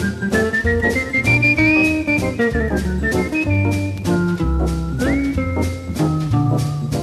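A clear, sweet whistled jazz melody by a Belgian-American jazz musician glides and bends over a steady band backing of bass, chords and light drums, prominent throughout, with no talking.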